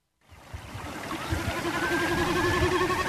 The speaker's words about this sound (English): This landscape with its babbling brook and warbling birdsong might be described as priceless